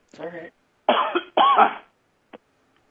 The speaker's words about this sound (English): Excuse me. I have to clear my throat.